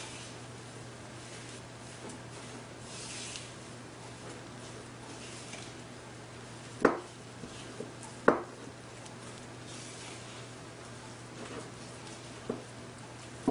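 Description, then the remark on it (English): Quiet, steady scraping and swishing of ingredients, including salt and fresh pepper, being stirred in a bowl, broken by a few sharp clinks of a utensil against the side. No one speaks. “Okay, now we're again gonna mix all this up.”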